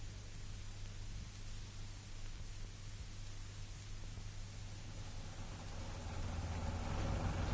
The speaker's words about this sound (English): By Timothy, this traffic really is appalling.